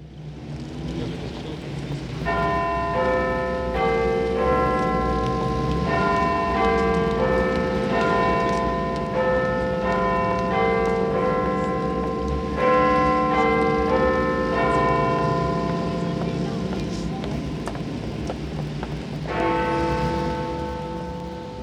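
The Big Ben clock tower bell at the Houses of Parliament in London rings out a steady sequence of loud, resonant chimes, the tones overlapping and sustaining over a constant low rumble of traffic noise.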